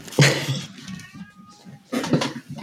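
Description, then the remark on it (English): A cat meows once with a thin, drawn-out cry, framed by sharp clattering knocks like dishes or objects being moved. “And sorry, I'm just going to shut the cat off.”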